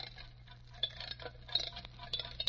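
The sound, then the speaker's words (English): An old alarm clock being wound with quick ratcheting clicks, then set down on a lead table in the center of a magnetic field with a few light knocks, over a low steady hum. “Now, wind up that alarm clock and put it here on this lead table in the center of the magnetic field.”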